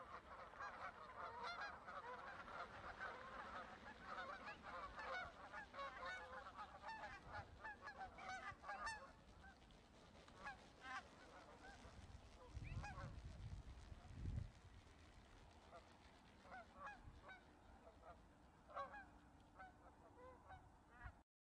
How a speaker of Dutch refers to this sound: Vogels die overvliegen.